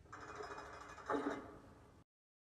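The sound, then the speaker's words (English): A heavy metal prison door sound, played as a Tesla car lock sound, slides along for about two seconds, swelling into a loud clanking slam midway, then cuts off abruptly into silence. No one speaks. “Prison door.”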